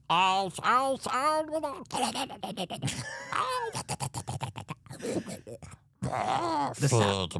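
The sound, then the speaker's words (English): A voice imitates a worm munching on a brain: wet, slurpy chewing and gnawing noises with groans and grunts, rising and falling in uneven bursts with a short pause before a final loud stretch. “Those munching sounds that he's doing, that's him just eating more of my brain.”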